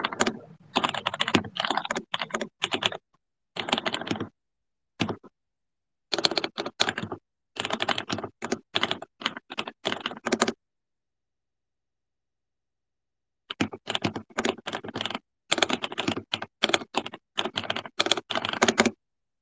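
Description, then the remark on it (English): Crisp typing on a computer keyboard, with rapid clattering keystrokes in bursts separated by short pauses and a longer silent gap midway, no voices present. “Me typing ASMR, keyboard ASMR.”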